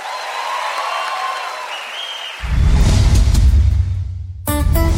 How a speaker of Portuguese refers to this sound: Obrigada, muito obrigada. Mais aplausos.